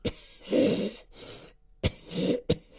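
A pair of short coughs, each opening with a sharp burst and trailing into a breathy rasp, separated by a brief quiet gap; no speech.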